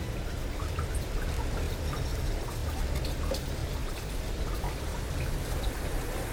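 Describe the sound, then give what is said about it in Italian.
Heavy rain pours down steadily on Florence, Italy, in November, after days of pounding rain that flooded the Arno river: a dense, continuous wash of noise with scattered individual drops pattering on surfaces. No voices. “Dopo giorni di pioggia battente, le acque melmose dell'Arno violentano Firenze.”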